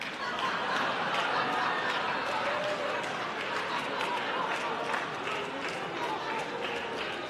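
Sustained clapping fills the whole stretch, a dense, steady patter of many hands with faint crowd murmur beneath, holding an even loudness without pause.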